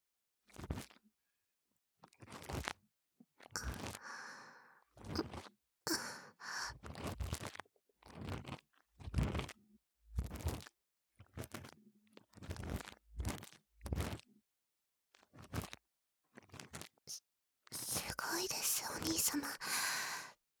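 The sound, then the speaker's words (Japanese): Crisp scissor snips sound very close to the ear, as scissors are used in the ear during an ear cleaning. They come in an irregular series of short bursts, mixed with soft whispering, and end in a longer stretch of rustling noise. “それでは、まずはハサミからお耳の中、失礼いたしますね。”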